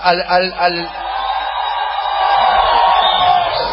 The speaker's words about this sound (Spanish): Los de acá dentro de la sala permaneceremos en silencio y les pediremos a los que están allá atrás que griten.